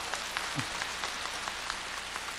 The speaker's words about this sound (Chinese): 鼓掌。